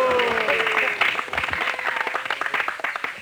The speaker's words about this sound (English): And Srimati Radhika defeated. And all the sakhis were clapping like this.